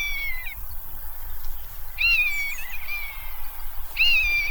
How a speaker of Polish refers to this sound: Myszołów, o którym wspomniałem, ze swoim przeciągłym, jękliwym okrzykiem.